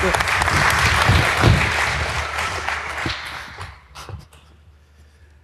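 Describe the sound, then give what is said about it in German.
A small audience applauds for the Improbanden improv theater group, a dense wash of clapping that stays strong for about three seconds, then thins out into scattered individual claps before fading. “Einen großen Applaus, auch wenn ihr wenige seid.”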